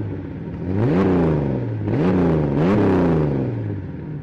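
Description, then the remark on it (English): The inline-six engine of a Fairlady Z (240), built from the 510's inline-four with two cylinders added, revs up three times in quick succession, each rise in pitch dropping back to a steady idle. It is loud and continuous, with no voices. “It was an inline 6, which was actually the 510's inline 4 engine with two cylinders stuck on the end of it.”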